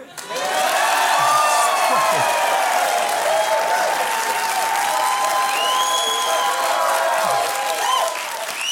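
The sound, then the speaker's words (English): A studio audience breaks into loud, sustained applause mixed with cheers and whoops, holding steady for several seconds with no one speaking over it. “But I'm trying to get nominated for an Emmy this season, so when I turn back, please applaud.”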